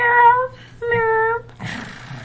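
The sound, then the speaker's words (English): Two drawn-out, high, tonal meows, a voice imitating a cat, one after another with a short pause, followed by a burst of rough, hissy noise. “How did that actually sound, though, like if you were just the layman kind of coming by, like an actual cat?”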